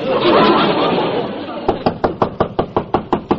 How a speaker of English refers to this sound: Only one person in an apartment house has got the nerve to knock like that, the landlady.